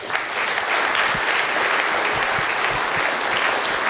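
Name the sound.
audience clapping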